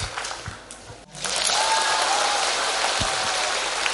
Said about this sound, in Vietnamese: Xin các con dâng những tràng vỗ tay thật lớn để chúng ta đón chào hai vị giáo sư của chúng ta.